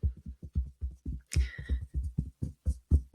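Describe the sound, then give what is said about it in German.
Fingertips drum quickly and unevenly on the breastbone, imitating raindrops growing heavier, even toward hail, producing a steady stream of soft, dull, low thumps, with one brighter, sharper rustle partway through. No one speaks. “Du hörst es vielleicht auch durchs Mikro, wie es bei mir tockert und der Regen richtig dolle prasselt, vielleicht sogar zu Hagel wird.”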